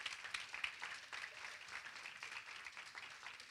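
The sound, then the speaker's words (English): An audience, including little children, clapping hands together during a church service: a dense, steady patter of many claps running through the whole stretch at a fairly soft level, with no voices over it. “He clapped them, though.”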